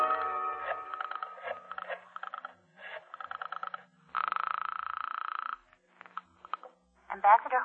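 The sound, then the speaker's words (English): A telephone being dialed to call a lawyer: several bursts of rapid rattling clicks, then a steady buzzing tone for about a second, followed by more clicks and a brief voice at the end. “I'll get him on the phone right now.”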